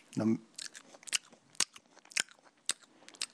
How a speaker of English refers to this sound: Sorry, I just chewed with my mouth open. Yeah, I think the whole world heard you chew with your mouth open.